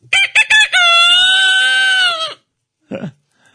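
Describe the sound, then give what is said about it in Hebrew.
A man, an animal-sound imitator performing live on Kol Chai radio, imitates a rooster crowing, loud: three quick clipped notes lead into one long, sustained crow, followed by a brief gruff vocal sound after a short pause. “מה את רוצה, תרנגול? תרנגול.”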